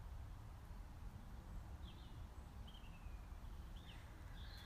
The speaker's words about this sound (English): But listen. There's a few birds.